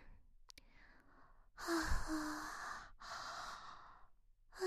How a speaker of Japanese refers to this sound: あくび私にも映っちゃった。